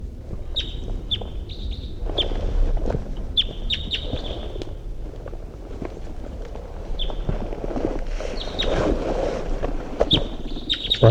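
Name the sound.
wild bird song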